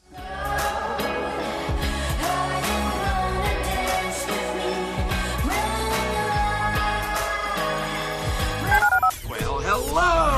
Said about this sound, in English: Dial the phone.